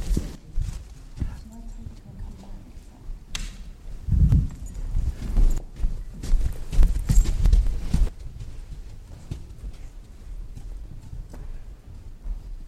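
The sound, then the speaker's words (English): Children's feet thud quickly up a flight of stairs, a run of heavy, uneven low thumps that swell in the middle and then fade, with faint voices underneath. “I have missed the thud of children going up the stairs.”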